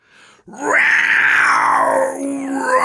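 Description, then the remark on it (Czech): A warrior's loud, drawn-out war shriek like an attacking baboon as he leaps into action, rising sharply, holding a strained wailing pitch, then dipping and climbing again over about two seconds, with no talking. “Válečník zaječel jak útočící pavián a vrhl se do akce.”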